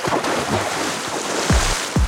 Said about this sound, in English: She smiled at the memory, then was brought back to the reality of the Arctic landscape by the sound of a loud splash.